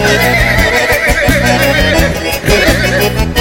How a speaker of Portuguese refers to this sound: Relincha, cavalo velho.